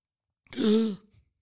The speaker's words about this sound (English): You know, like when you do, like, the gasp before you sneeze and then you don't do it? Thank God that I felt it. It came, and like a wave it passed.